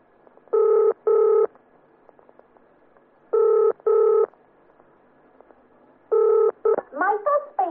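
Touch-tone telephone dialing: five steady, mid-pitched beeps in spaced pairs with pauses between, followed by a quick flurry of shorter, wavering tones at the end.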